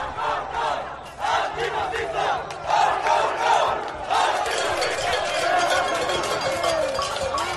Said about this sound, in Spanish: Frente a los del CAF y la bandera de España que piden libertad, los de la bandera republicana de Marruecos, de Colombia, que gritan fascistas.